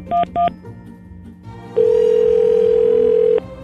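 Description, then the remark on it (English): Two quick keypad beeps, then a loud, steady telephone tone holds for over a second and a half before cutting off abruptly, as a call is placed to a cell phone dealer. The sound is clear, with no voices. “All right, and now to get the second cell phone dealer on the line.”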